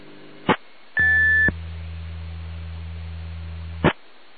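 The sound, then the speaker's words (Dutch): A steady, high-pitched whistle tone on an amateur radio channel, lasting about half a second over a hiss of static and low hum, with very faint modulation deep in the background, set between two sharp clicks. “Ja, ik hoor wel een fluittoon.”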